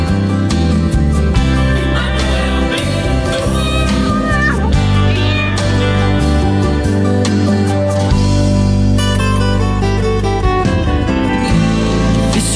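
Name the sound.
kitten meowing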